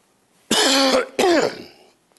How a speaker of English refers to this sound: Don't worry about the coughing. It just helps me get a tempo.